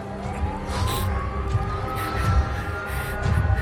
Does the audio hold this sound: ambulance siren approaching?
yes